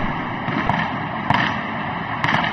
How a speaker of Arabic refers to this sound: ليلة جديدة من النار والرصاص في سماء طرابلس.